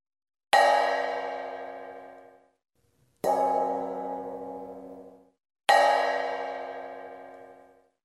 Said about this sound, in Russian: сказала большая сковородка. «Послушайте теперь меня». И она зазвонила, как колокол.